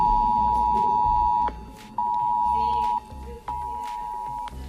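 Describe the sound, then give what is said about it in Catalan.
A loud, piercing mobile phone emergency alert tone, sent by the authorities to the population of the Balearic Islands, Spain, blares in repeated long bursts with short breaks, harsh and insistent, over muffled background noise. “Per primera vegada fet, les autoritats van enviar l'alerta als mòbils a la població d'aquí de les Illes.”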